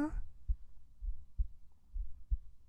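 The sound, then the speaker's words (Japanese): The speaker's own heartbeat, picked up by the microphone, thumps muffled in a steady rhythm, each beat a soft low double thud, with a brief bit of voice at the very start. “お、いい具合に心音取れてない？今心音聞こえる？”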